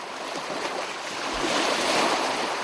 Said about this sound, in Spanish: Y nos dejamos llevar por el sonido cautivador de las olas para conocer la leyenda del Cristo del Mar. Es súper relajante el mar, de verdad.